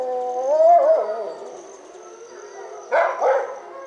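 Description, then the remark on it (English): A captive-bred wolf dog at a wolf sanctuary in a steep mountain canyon in northern Colorado gives a wavering, drawn-out howl, then two short, sharp bark-howls follow near the end, clear with no talking over them. “You can hear one of these wolf dogs sort of bark howling.”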